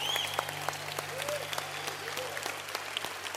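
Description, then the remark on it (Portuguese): An audience claps steadily after a prayer of blessing, a dense rattle of many hands at moderate volume with a few sharper individual claps standing out, and no one speaking over it. “É para vocês essas palmas.”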